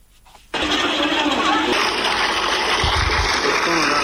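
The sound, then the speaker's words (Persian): After a brief quiet moment, water suddenly gushes from a water pump in the Naranj Bagh area of Jalalabad city, where people queue around it; a loud, steady rush of splashing flow that continues without a break to the end. “شماری از مردم در منطقه نارنجباغ شهر جلال آباد دور یک بمبه آب صف کشیدند.”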